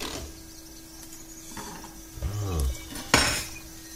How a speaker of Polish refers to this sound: Przepraszam bardzo, ja tak zwykle rozpędzam jakieś maszynki, trzeszczą. Strasznie tu głośno chodzi. Nie wiem, co to jest. Nie, mniejsza o to. Jeden z wentylatorów pewnie. Zostawiamy te szumy.